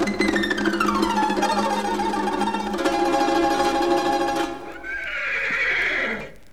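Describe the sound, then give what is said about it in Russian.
A red horse gives a long, loud whinny that falls in pitch and trembles, followed by a second, higher neigh. No one speaks. “Эй, рыжий конь из ноздрей огонь! Встань передо мной, как лист перед травой.”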